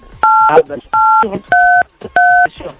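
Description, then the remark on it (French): Four loud telephone keypad beeps, each a steady two-note tone lasting about a third of a second, pressed at a regular pace with muffled voice sounds between them, apparently as Ladislas Dunyama presses keys on his phone during a call. “Il y a Ladislas qui appuie sur son téléphone, j'ai l'impression.”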